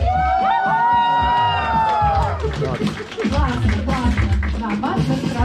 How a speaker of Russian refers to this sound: Поднять все сертификаты наверх и кричать «Ура!».